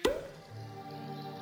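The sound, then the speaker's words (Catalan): A single sharp, hollow, loud cork pop as a bottle is uncorked, followed by a low, steady ringing tone that lingers faintly. No one speaks. “Destapa.”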